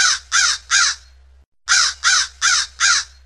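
A crow caws three times in a steady rhythm, pauses briefly, then caws four more times, loud with harsh raspy calls over a faint low hum.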